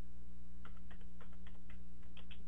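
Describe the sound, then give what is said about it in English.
Quick, uneven keystrokes on a computer keyboard, someone typing in the name chamomile tea, a dozen or so light clicks tapping out a short burst of typing over a steady low hum, with no voices. “I can hear you punching it in the computer as we're speaking.”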